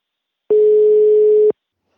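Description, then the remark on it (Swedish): A single steady telephone ringing tone for an outgoing call, one clear one-second beep at mid pitch, loud and alone, with silence before and after. “Nu ska ni få höra vem jag ringer upp.”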